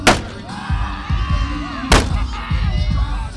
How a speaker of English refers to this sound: and the party is already underway on the plaza outside Nashville's Bridgestone Arena. This is Smashville, and Predators fans are kicking things off by taking a sledgehammer to a junked automobile, painted over with the Ducks logo and color scheme.